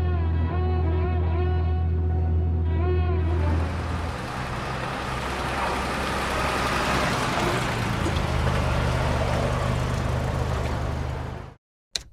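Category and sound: vehicle, car driving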